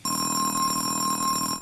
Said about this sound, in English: And an alarm clock.